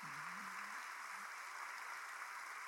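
An audience applauds the Lord during a church service, with dense, steady clapping that holds at an even level for the whole stretch. A brief voice rises faintly beneath it at the start.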